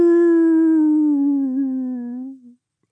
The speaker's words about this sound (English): The wolf howled again, much louder. Hadrian stopped Royce by grabbing his arm. That's it. It's in the house, yeah. Can't be a wolf, then. Has to be a dog.